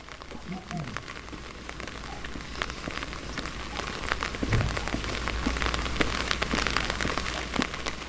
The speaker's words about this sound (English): It was muggy and rain started hammering down as we walked through the terraced streets that were hugging the railway line.